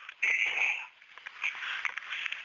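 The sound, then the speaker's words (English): Someone clears their throat: a raspy, hoarse burst followed by a few shorter, rougher rasps, with no talking. “Excuse me while I clear my throat.”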